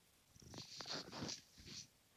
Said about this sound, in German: Das ist das Tier, das, was gerade neben mir sitzt und schnurrt.